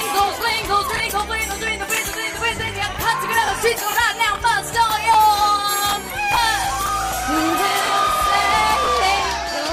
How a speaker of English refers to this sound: In the video, which became an internet sensation when it was released last week, the crowd reaction is priceless.